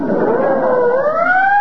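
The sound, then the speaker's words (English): An ambulance siren wails loudly and steadily, its tone dipping slightly and then climbing higher, with no voices. “There goes another ambulance.”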